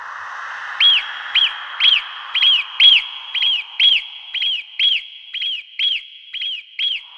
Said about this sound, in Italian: La marmotta allora si alzò lentamente ed emise dal profondo un fischio potente.